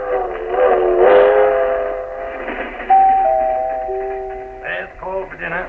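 A passenger train, the 7:30 to Florida, rolls along with a low steady rumble, while sustained, bright whistle-like tones sound over it, rising and shifting in pitch before fading near the end.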